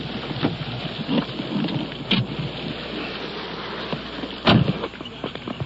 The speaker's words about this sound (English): Rain is coming down now. It's beating down pretty hard as we're crossing this parking lot.